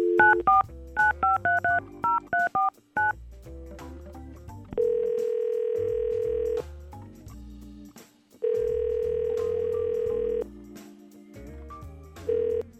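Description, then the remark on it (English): A quick run of about ten touch-tone dialing beeps, followed by two long, steady telephone tones separated by a pause, clear and fairly loud with no talking. “we're going to try to call Marissa right now”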